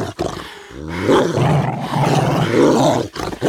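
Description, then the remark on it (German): Dogs growl threateningly, a loud, rough snarling rumble that swells and holds for a few seconds with short breaks, with no talking over it. “Aber als sie sich dem Bett nähern wollte, sprangen sie auf, knurrten bedrohlich und zeigten die blitzenden Reißzähne wie zum Angriff.”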